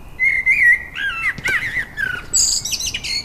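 blackbird singing

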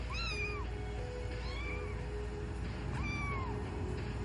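kitten meowing

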